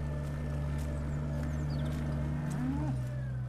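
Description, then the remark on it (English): Weanling calves on a dairy farm near Cuff's Grange, Kilkenny, give a short, bellowing moo late on, low, over a constant droning hum of farm machinery that runs throughout. “So I'm getting a great greeting here with all these weanlings.”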